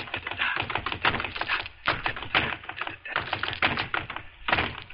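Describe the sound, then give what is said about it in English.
Rapid, rhythmic thumping of a punching bag being hit in quick flurries by a composer exercising in a home gymnasium of a penthouse overlooking the Hudson River, with brief pauses between bursts, fairly loud with no talking. “I was just punching the bag and... Here, listen to this.”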